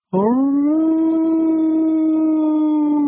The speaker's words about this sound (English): Even the seals know it. Suddenly, all over the water, heads were bobbing up, singing to her.